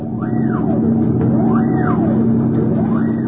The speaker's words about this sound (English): Navy and Coast Guard boats patrol the island.